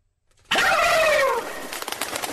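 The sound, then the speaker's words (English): A loud Christmas turkey gobble with no one talking: a sudden warbling, wavering call that breaks into a rapid, bubbling burst of pulses before trailing off. “It's not bats, the turkeys. Christmas turkeys.”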